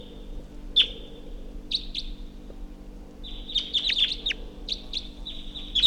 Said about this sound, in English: Wild bird up in the tree. Wild bird took off.